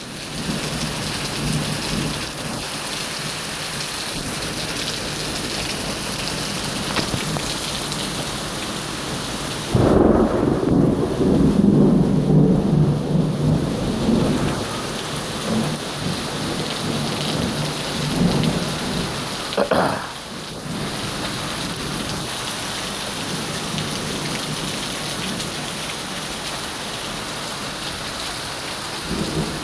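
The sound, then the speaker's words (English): Steady rain hisses and patters for the whole stretch, while deep thunder rolls in low and heavy partway through, then fades back under the downpour. No one speaks. “I'm going to sit here for a little while and enjoy the rain.”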